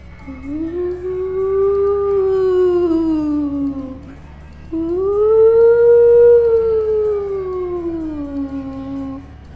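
Two long, eerie howling tones imitate wind whistling through the cracks of an old house, each rising slightly and then sinking in pitch, with a short pause between them. The sound is steady, fairly loud and carries no words.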